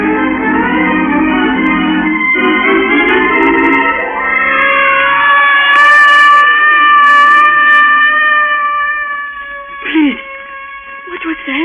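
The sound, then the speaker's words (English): A loud ambulance siren wails steadily, its pitch sliding upward then holding in a long sustained tone, with a few short bursts of hissing noise near the end. “It is the voice of the vehicle of death. Vehicle of death? Ambulance.”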